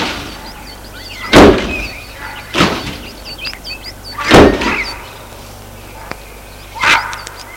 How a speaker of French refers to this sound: Arrêter la voiture devant l'entrée de la maison où se trouve un petit homme maigre à cheveux gris habillé en jardinier. Porte de voiture.